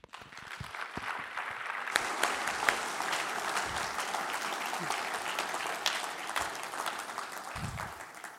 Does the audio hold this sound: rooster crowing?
no